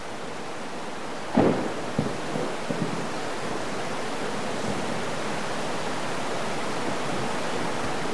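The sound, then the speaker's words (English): Heavy rain, long awaited by the corn in the fields, pours down in a steady, dense hiss that fills the whole recording, with a brief sharper thud or crack early on and no voices. “And may our hearts be like the corn out there in the field that was just thirsting for this rain.”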